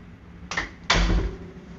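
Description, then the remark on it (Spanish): A door that had come open is shut by someone walking around: a short creak or scrape followed by a fuller thud with a low rumble, over a quiet background hum. No one speaks. “Ando caminando aquí y voy a cerrar una puerta que se abrió.”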